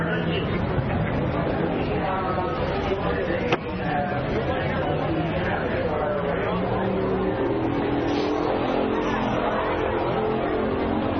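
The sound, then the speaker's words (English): Loud race car engines roar and whine past, their pitch sweeping up and down as the race cars speed by, over steady crowd chatter and voices. “Was that just a car on the street, or was that a race car? No, race cars. Race cars going by.”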